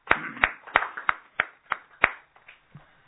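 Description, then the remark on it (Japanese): A short burst of applause celebrating a minister turning 35: about seven sharp, evenly spaced claps stand out over a softer patter, then it thins into a few quieter claps. No one speaks. “満35歳を迎えられましたので、盛大な拍手でお祝いを。”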